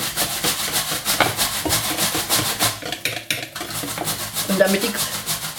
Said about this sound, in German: Und langsam, tropfenweise, das Kokosfett unterrühren, dass sich das immer schön in eine Schüssel bindet. Das muss immer eine cremige Masse beim Rühren sein. Das darf nicht flocken oder sowas. Nein, es muss immer schön cremig sein.